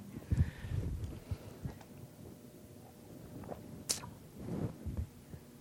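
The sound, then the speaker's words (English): Quiet swallowing as someone drinks a sip of water: a few soft, low gulps in an irregular rhythm, with a brief sharp rustle near the end and no talking. “I need a drink of water.”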